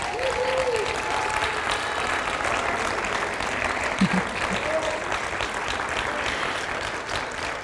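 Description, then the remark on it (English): An audience at a church service claps for God as a thank offering, clapping steadily for several seconds, a dense, continuous wash of applause at a fairly loud, even level, with a few faint vocal tones and cheers rising through it. “So I just want you to give God a clap and a thank offering.”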